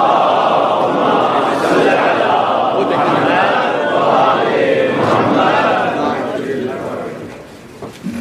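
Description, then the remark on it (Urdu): A large crowd loudly recites salawat on Muhammad and the family of Muhammad together, many voices chanting in unison with a steady, dense roar that holds for several seconds before tapering off near the end. “ایک اور بلند تر صلوات.”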